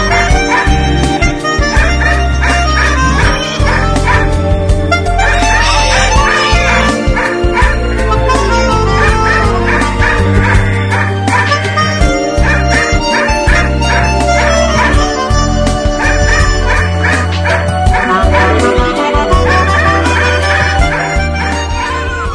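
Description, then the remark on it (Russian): A dog barks loudly and repeatedly in a yard in a steady string of sharp yaps and bow-wows, with occasional whimpers, continuous throughout. “В ушах зазвенели веселые колокола, а в моем дворе лаяла собака.”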